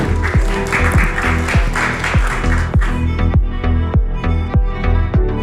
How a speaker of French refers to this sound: Merci encore à tous les quatre. Vous pouvez retourner dans le public. Félicitations, on peut encore une fois les applaudir.